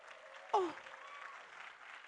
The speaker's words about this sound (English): Oh, is that all you? Your clap is not romantic at all.